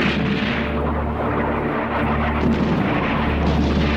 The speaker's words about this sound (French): Oui, tous les canons sont en position. À l'aube, le bombardement commencera et nous l'arrêterons à 4h30, très précise.